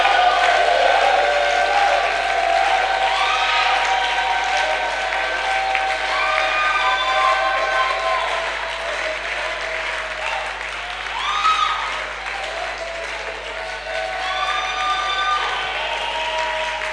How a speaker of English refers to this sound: If you have been blessed, can you shout and clap to God's glory?